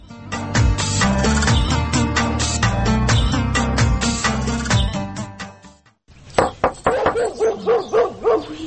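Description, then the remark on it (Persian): A tied-up dog barks repeatedly in quick, steady, loud bursts, following several seconds of dense, continuous background sound that cuts off just before the barking starts. “از برای خدا یک دفعه ای سگ ایلا نشه.”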